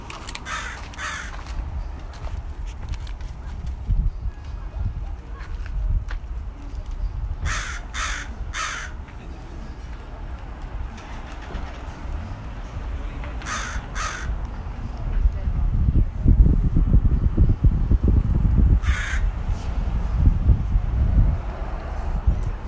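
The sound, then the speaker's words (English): A crow perched on top of a riverside bistro caws several times in short bursts, some calls doubled or tripled, over steady outdoor wind noise that grows louder toward the end. “That was it. The Dawson crow calling.”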